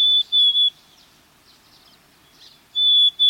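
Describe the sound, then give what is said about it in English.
A black-capped chickadee's plaintive whistled song: a clear, pure two-note phrase sung twice with a quiet pause between, alone against faint background hiss. “Black-capped chickadees sing a plaintive, whistled song”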